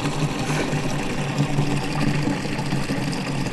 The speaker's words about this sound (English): To the water butt again. You can hear me over the high-powered water butt coming out.